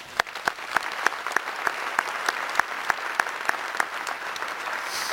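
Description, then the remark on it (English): An audience of Cornell colleagues and employees applauds one another, a dense wash of hand claps with a few sharper individual claps standing out, sustained at an even level throughout without any talking. “Your hard work and dedication is appreciated, and let's give each other a round of applause.”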